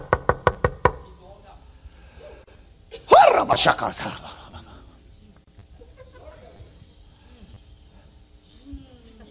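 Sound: knocking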